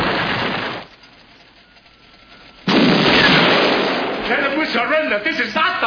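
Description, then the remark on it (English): A loud special-effects explosion in a film scene bursts in suddenly after a brief lull, its broad roar rumbling and slowly fading, following an earlier stretch of noisy rumble; voices begin talking over the tail end. “as soon as the explosion goes, you know just how near you can get to it”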